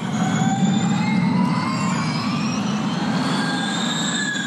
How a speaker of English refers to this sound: The traditional sounds of Formula One racing are slowly giving way to the sounds of Formula E.